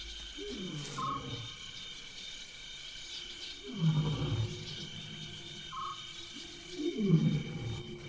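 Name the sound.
lions roaring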